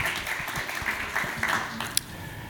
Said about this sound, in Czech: Tak taky díky moc, že jste dorazili a prosím o potlesk.